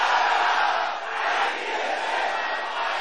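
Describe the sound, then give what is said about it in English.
A large group of men, called on as brothers to shout with thunder, shouts together in a loud, sustained roar, lasting about three seconds with only a brief dip in volume partway through. “Brothers, shout it with thunder!”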